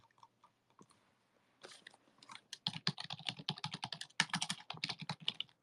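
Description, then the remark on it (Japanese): Rapid computer keyboard typing, fairly loud, with a dense run of clicking keystrokes after a few scattered taps at the start. No voices are heard. “タイピングしてます。”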